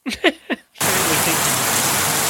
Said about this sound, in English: Pink noise for 10 hours on YouTube.